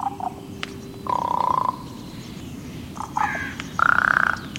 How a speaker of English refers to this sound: Ravens, their voices unmistakable, held a prominent place in the cultures of northern peoples from the Vikings to the tribes of the northwest coast.